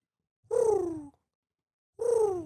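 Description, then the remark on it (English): Two throaty, drawn-out coos of a rock pigeon, each sliding downward in pitch and lasting about half a second, separated by a pause, with no talking. “That's a rock pigeon.”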